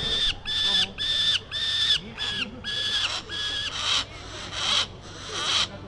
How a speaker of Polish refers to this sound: Słyszycie drapieżne ptaki na dziedzińcu Zamku Książąt Pomorskich.